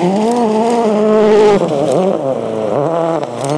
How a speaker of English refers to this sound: And the next car's arriving now. So it's another Ford Fiesta WRC.